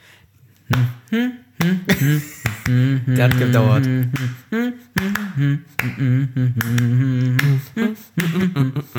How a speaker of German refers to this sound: Also ein Tango hat... Es ist schwierig zu klatschen, weil du hast da lange und kurze Schritte ja vor allem so eher.